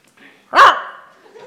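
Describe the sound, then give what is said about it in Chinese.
A person imitates a dog that answers the telephone on speakerphone, giving one loud bark, a sharp yelping burst that fades quickly. One bark means 'yes, at home'. A faint low murmur sounds before and after. “这什么意思？ 一声就是在。”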